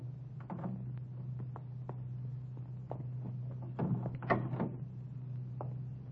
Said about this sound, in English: We stopped around the corner from the filling station. Easy on the door when you get out.